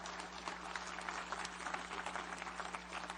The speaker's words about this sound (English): Come on, somebody. Come on, give the Lord a good clap offering this morning. Would you do that?